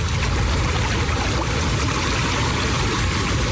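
Loud, steady roar of rushing flash floodwater carrying muck, trees and debris, a dense churning wash with no pauses and no voices.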